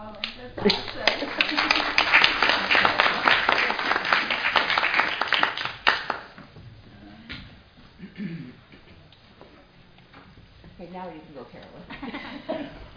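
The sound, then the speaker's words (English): A loud, dense burst of audience clapping lasts about six seconds, many hands patting at once, then cuts off as quieter talking voices take over. “We may as well make one more announcement and one more clap.”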